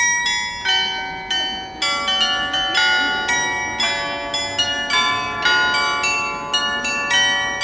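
Carillon bells in Esslingen, played live by hand, ring out in a lively, irregular sequence of struck notes, each with a bright shimmering decay that overlaps the next, forming a continuous tuneful peal with no talking.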